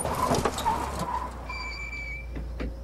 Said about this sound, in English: The young woman's car crests a hill in nighttime LA and then pulls to a halt.